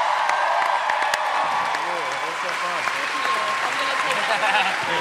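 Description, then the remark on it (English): A large crowd claps steadily and loudly for Maisie Williams, with cheers and whoops rising over the dense wash of applause for the full five seconds. Voices are audible beneath the clapping. “Please join me in giving a huge round of applause to Maisie Williams, who crushed it.”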